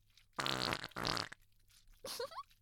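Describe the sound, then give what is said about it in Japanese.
Two loud, buzzy farts blast out back to back, each lasting under half a second, followed by a brief, softer vocal sound. “毒のおなら一丁上がり。”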